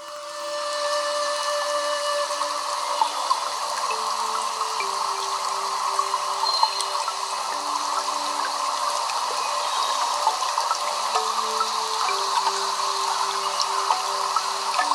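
Steady rushing water fills the background while a soft, breathy Chinese Zen healing flute plays a slow melody of sustained notes over it, with no voices.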